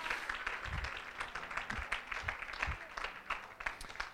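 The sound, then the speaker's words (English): A church audience claps steadily over several seconds as they stand to their feet, a dense wash of many hands with a few louder low thumps, no clear voices on top. “Clap your hands and stand to your feet.”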